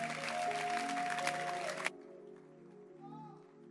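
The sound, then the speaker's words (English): An audience at a church service claps in a dense, steady wash of applause over a sustained musical tone; after about two seconds the clapping cuts off abruptly, leaving a quieter background with faint voices. “You are clapping as if you have not been in the room.”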